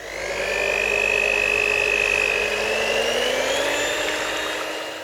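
A kitchen mixer runs in a bucket of water to imitate a motorboat, making a steady motorized whir with a bright tonal hum, running continuously and fairly loud with a slight gliding pitch and no talking.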